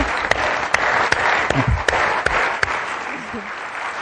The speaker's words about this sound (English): I'll clap for that.